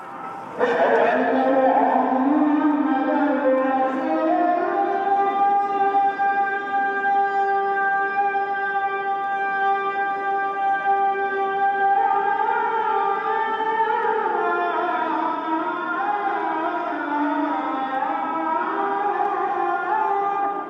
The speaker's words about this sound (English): We walked into the courtyard, and immediately upon getting in there on the loudspeakers above our head, the call to prayer came on, and I vividly remember just kind of having that chills in my spine as we recorded this sound.